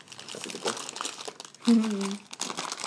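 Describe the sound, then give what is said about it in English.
Continuous crackly crinkling of a large bag, a present from the Great Yorkshire Show, being opened, bursts of rustling throughout, with a short voiced sound rising over it midway before the crinkling carries on. “Oh, wow, this is a huge bag.”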